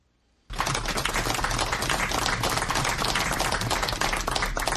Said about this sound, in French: C'est une foule parmi laquelle deux ministres et les militants du RDPC parti au pouvoir qui applaudit l'arrivée de Mama Abakaï, maire de Lagdo, et 10 autres anciens otages à Yaoundé.